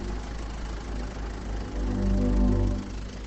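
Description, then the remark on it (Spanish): A tractor engine chugs steadily during the grape harvest in a vineyard at Briones, La Rioja, Spain, a low rumbling idle that swells louder for a moment before easing back, with no voices over it. “Bueno, queremos despedirnos con este sonido, el sonido del tractor, que los tractores son sin duda protagonistas de la vendimia riojana.”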